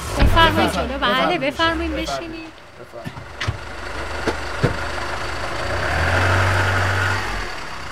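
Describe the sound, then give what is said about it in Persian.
A car engine idles with a steady low rumble as passengers get in for a drive of about 30 to 40 minutes, heard under a man's voice at first, then alone with a few faint clicks and a slight swell in the engine near the end. “بفرمایید تعارفم نکنیم با این ماشین بریم جان.”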